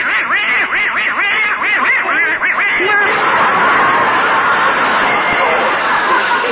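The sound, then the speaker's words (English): A duck named Herman quacks loudly in a rapid, rhythmic run of nasal calls, then breaks into a denser, more jumbled stretch of excited quacking that continues to the end, in front of the fireplace on the night before Christmas. “Only Gracie and Herman, their little duck, are still downstairs in front of the fireplace.”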